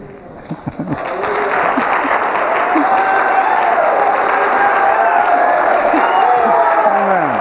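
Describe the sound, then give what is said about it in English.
A large crowd bursts into sustained applause after a brief moment, loud and steady to the end, with scattered cheers and shouting voices rising over the clapping. “66:1, all together now, applause for God.”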